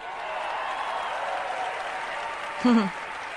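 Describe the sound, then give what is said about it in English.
A large crowd at a summit in Iowa claps and cheers in reaction to Ted Cruz's remarks, in a steady, dense wash of applause, with a short, loud whoop rising above it near the end. “Now listen, not only to the comments, but to the crowd reaction.”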